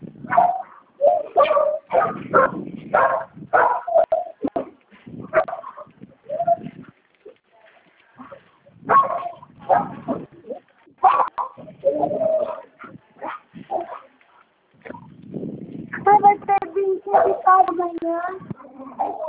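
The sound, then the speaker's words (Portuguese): Dogs bark inside a house in repeated short bursts, with pauses between volleys and some higher whining yelps near the end, while people talk in the background. “Os cachorros dentro de casa, a gente fica em casa.”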